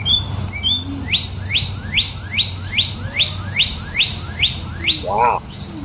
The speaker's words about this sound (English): Now, would you have known, he sent in the note that it was a cardinal. Would you have known it was a cardinal if not for his note? No, but that is a very familiar bird sound to me, which actually was surprising.